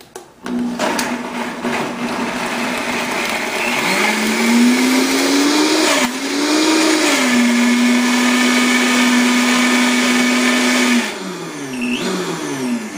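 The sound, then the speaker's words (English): A blender mixing vanilla and 2% milk runs loudly and steadily for about ten seconds, its motor pitch rising and shifting slightly as it churns, then winding down briefly before revving again at the end. “So we're gonna start our blender.”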